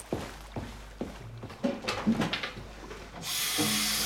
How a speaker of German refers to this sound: Kannst du bitte das Wasser abdrehen?